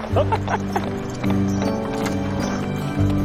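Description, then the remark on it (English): Horse hooves trot down a road in a steady clip-clop rhythm, clear, over a sustained tonal, musical-sounding background. “Trotting through the snow in a one-horse open sleigh.”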